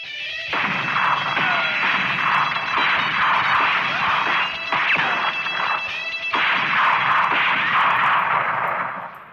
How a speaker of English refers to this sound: But it was finding one that didn't sound like a bad sound effect. We had access to the BBC sound library, which is unbelievable. And so they found a gunshot that was the perfect one for the song.